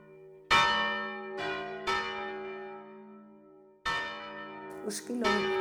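A church bell called the esquilón, rung before the 8 o'clock mass, rings out in a series of loud, resonant strikes, each leaving a long shimmering decay, with several strokes spaced unevenly a second or more apart and faint voices near the end.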